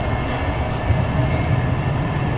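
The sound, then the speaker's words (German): Steady low rumble and rolling hum of a moving passenger train heard from inside the carriage, continuous and fairly loud, with faint higher rattles and no voices. “Wo die Bastas sind, höre ich gerade auch nicht, aber ich schaue mal durch den Zug, ob ich ein paar bekannte Gesichter sehe.”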